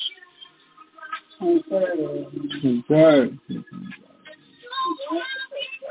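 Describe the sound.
A pigeon perched on a person's shoulder on 22nd Avenue coos, a run of soft, throaty warbling calls that swell and fade, with a person talking intermittently.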